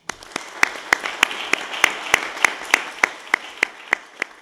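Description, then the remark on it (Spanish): Audience applause by participants of a tourism training programme at a tourism event, with sharp, evenly spaced claps, about three per second, standing out over a dense wash of many hands clapping. Steady throughout, with no talking. “A todos ustedes muchísimas gracias, y quiero que se den hoy aquí un enorme aplauso, porque yo se los doy de corazón.”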